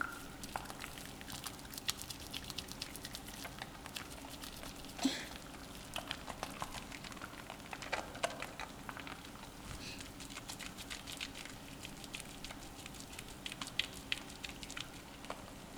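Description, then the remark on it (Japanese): Soft, continuous crackling and popping of soap foam bubbles, a dense scatter of tiny irregular ticks with an occasional slightly louder pop, steady and fairly quiet with no talking. “泡の音を聞いているだけでふわふわに包まれてるみたいでしょ。”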